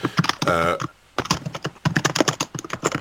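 Rapid, steady clatter of keys on a computer keyboard, close and fairly loud, with a brief pause near the start and a short voiced hum early on.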